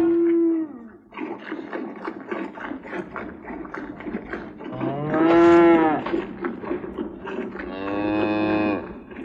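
Eight Friesian cows in a drawing room moo in three loud, drawn-out, low bellows, one at the start, one midway and one near the end, with a steady rattling, clattering noise filling the gaps between them.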